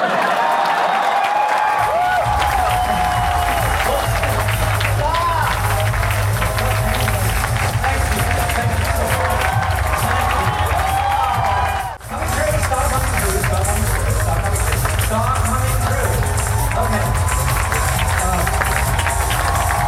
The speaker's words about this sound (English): Stage yet, so can we keep the applause going?